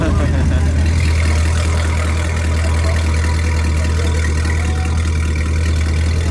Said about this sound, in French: Ouais, hein, ça sent pas bon les voitures. En fait, on est entre deux moteurs, donc j'ai chaud aux jambes.